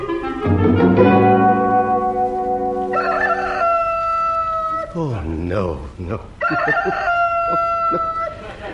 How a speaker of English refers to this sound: There's someone outside doing bird impressions. Bird impressions, and they're terrible. That's Miss Boots' chicken.